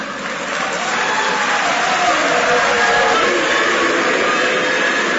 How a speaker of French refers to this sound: Ces bruits proviennent des militants des partis politiques et parfois des étudiants, soit pour applaudir certains panélistes favorables à leur opinion, soit pour conspuer les magistrats syndicalistes qui rappellent leurs revendications